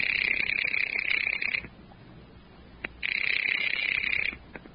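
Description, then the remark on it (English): A telephone rings twice, each long, trilling ring lasting about a second and a half with a pause between them. The ringing is clear and fairly loud, with no voices. “Expense account item 4, 10 cents, another phone call.”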